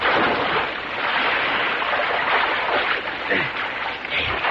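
A steady, roaring wash of Atlantic Ocean surf fills the whole stretch, loud, with breaking waves churning continuously and no clear pause between them.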